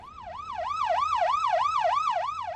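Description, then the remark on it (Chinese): A police car siren yelps in a fast, steady up-and-down pattern, loud, with no talking over it, from a police car following behind a car that was driving too fast in a 35 mile per hour zone. “哎呀，弊啦！警车跟喺我后边，咁点算啊？”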